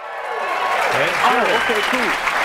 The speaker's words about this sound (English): But even after playing in two Super Bowls, he had a problem believing that our cheering crowd was legit.